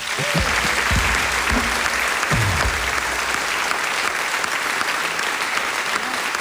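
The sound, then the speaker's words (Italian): Sustained audience applause at the Acoustic Night concert for the lighting technician, a dense steady wash of clapping hands lasting the whole clip, with a few brief vocal sounds or cheers breaking through at the start. “E vorrei poi adesso un grande applauso per il nostro tecnico luci”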